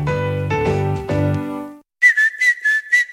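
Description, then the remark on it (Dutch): A few sustained musical chords fade out, then after a brief pause someone whistles a short, bright tune in several quick phrases, clear. “Niet alleen de vogels fluiten in april, ook Toyota-rijders.”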